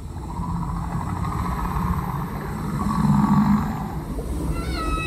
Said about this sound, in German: Im Ozeaneum heißt sie Halle der Riesen, wo die geheimen Gesänge der Wale zu hören sind.